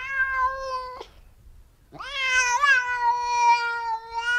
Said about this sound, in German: Aber klar, so klingt eine Katze. Und so klingen viele Katzen. Kein Witz.